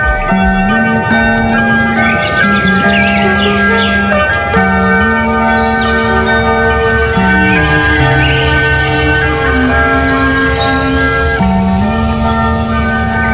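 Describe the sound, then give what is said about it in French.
A soft, gentle instrumental melody of sustained, ringing tones plays steadily throughout, with light birdsong chirping faintly above it and no voices. “Cette chanson douce me donne envie de shooter un canard.”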